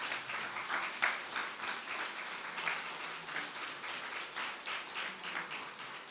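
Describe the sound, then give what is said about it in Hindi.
An audience claps together for several seconds, a dense, steady patter of many hands with a few sharper claps standing out, with no talking. “तो ताली बजाओ जरा अच्छी तरह से एक बार जरा।”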